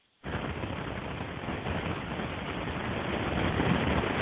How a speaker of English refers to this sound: Okay, whoever is driving, please mute your phone because we can hear all the road noise.